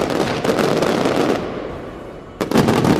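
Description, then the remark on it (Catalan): Rapid bursts of firework rockets, lit during the Falles festival, crackle and bang, a dense rattling barrage that thins into a rumbling tail before a fresh volley erupts near the end. “Cada explosió dels coets que encenen és un recordatori que, mentre ells visquen, les falles també ho faran.”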